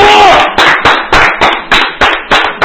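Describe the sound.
Steady, rhythmic hand clapping, about eight or nine sharp claps in quick succession, with a brief bit of voice at the very start.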